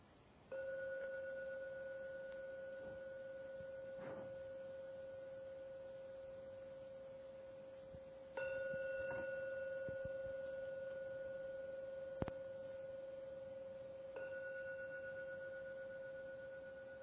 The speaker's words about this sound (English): To ring the gong 3 times. Please listen to every sound of the gong. When the last sound vanishes, open your eyes.